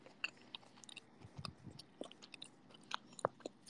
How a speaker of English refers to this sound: Cookie eating noises are to be expected. I guess that's true. Yeah, they're crunchy on the outside and chewy on the middle.